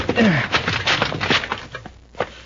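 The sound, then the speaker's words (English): A rickety, locked wooden shed door is kicked open: a brief creaking groan, then a burst of loud cracking, splintering knocks that clatter on irregularly and fade over a couple of seconds. “It's a rickety-looking door. One kick ought to break it.”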